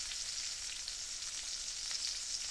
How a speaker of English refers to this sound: It sounds sort of like rain falling on a roof, but it's not. I can confirm it's bacon frying because I watched a video.